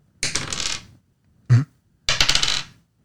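Dice, D8s or D10s rolled as hit dice, clatter across a hard table in two bright rattling rolls, separated by a single short knock, fairly loud with no talking.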